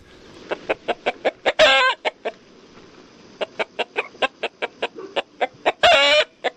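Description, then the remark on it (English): Chickens cluck in a steady run of short, sharp bursts, broken twice by a louder, drawn-out rooster crow. Clear, with no voices present. “Chickens and foxes attempt to bridge their differences at the Durban 2 UN conference on carnivorism and hanophobia.”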